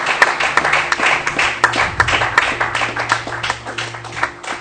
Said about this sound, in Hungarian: Adjunk egy nagy tapsot azoknak, akik meghozták ezt a döntést ma. Szuper. Nagyon jó.